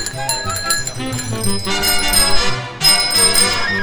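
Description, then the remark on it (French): Several bicycle bells ring at once during a group cycling ride in Tournon, a loud, continuous jangle of overlapping metallic dings, briefly thinning before a fresh burst of ringing near the end. “On est parti, on fait aller les sonnettes.”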